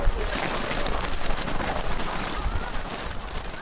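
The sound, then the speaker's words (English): About 200 snowshoes pound across snow at once at the start of the Side Hiller snowshoe race, run around the perimeter of fairgrounds, blending into a dense, steady hiss of crunching steps that sounds like a heavy downpour, holding at an even loudness throughout. “The sound is a downpour, as though the 200 snowshoes could beat the snow back into rain.”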